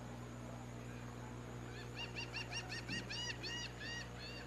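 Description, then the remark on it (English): Seagulls call in a quick run of repeated, harsh squawks over the second half, moderately loud against a steady low hum of background noise, as a couple of seagulls fly by behind home plate at a baseball game by the beach. “A couple of seagulls do a flyby behind home plate.”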